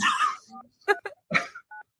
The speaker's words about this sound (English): Yeah, is that me? Can you stop with your dial tone?